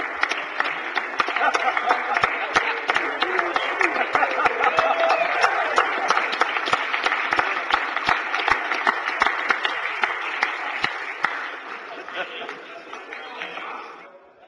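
In a Senate chamber, a crowd applauds a senator's guest steadily for about fourteen seconds, dense overlapping claps forming a bright, sustained wash that fades out at the end, with a few scattered chuckles mixed in.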